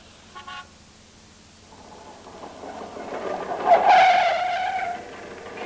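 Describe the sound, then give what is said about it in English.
A small motor scooter engine buzzes in Clacton, growing louder as it arrives, then gives a short, reedy horn toot before idling on. A faint chirp sounds near the start; no one speaks. “Voulez-vous like to hop on the back of this scooter and live it up a bit?”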